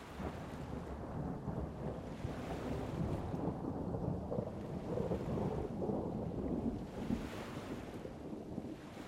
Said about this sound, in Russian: В вышине, по вспученным тучам, ружейным выстрелом ухнул гром.